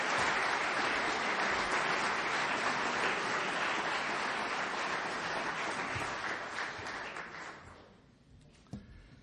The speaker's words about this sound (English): I'm not sure I know whom you're applauding for. Is that good English? Whom you're applauding for? We'll see whether you applaud at the end.